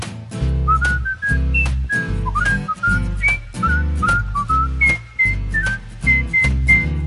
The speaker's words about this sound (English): I love to whistle everywhere I go.